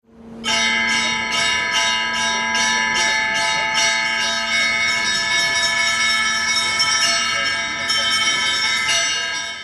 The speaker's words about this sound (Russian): Особенно красиво и торжественно здесь бывает по большим праздникам, когда округу оглашают колокола, но при ходе даже есть свой звонарь.